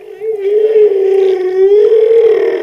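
Humpback whales communicating with one another: a long, steady moaning tone with rich harmonics, its pitch gently wavering up and down for nearly three seconds, loud and unbroken with no talking.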